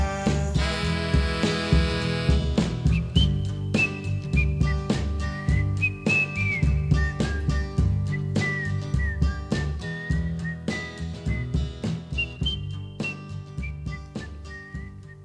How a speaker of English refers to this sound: So one of the fascinating things about that song was that he was originally going to replace all the whistling with actual lyrics. He never got around to it because he died 2 days after recording it.